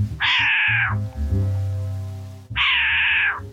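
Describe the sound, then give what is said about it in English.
A short-eared owl swooping by gives two loud, raspy, cat-like calls about two seconds apart, each a harsh drawn-out screech, with a low steady hum running underneath and no talking. “I just saw a short-eared owl swoop by and make the cat noise I heard earlier.”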